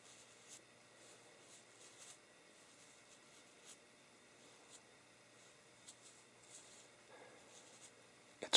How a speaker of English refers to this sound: just it's soft and a little bristly at the end. Brushing the palm is very soothing.